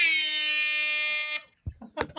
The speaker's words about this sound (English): McKenna has an air horn here. When you guys hear the air horn, we're good to go.